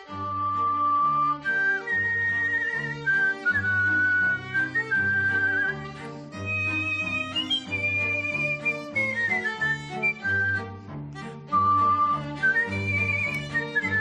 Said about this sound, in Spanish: Y es que esta joven madrileña de Colmenarejo lleva desde pequeña sorprendiendo a todos con su talento para silbar, pero no hablamos de silbar una melodía cualquiera, hablamos de convertir el silbido en arte, como puedes comprobar.